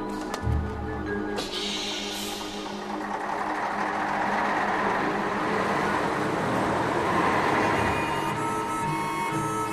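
A bus idles and rumbles to a halt amid steady street traffic, a dense, continuous roar of engines and road noise filling the scene.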